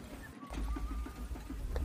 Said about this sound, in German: Eine Pferdekutsche rollt langsam durch die Straße.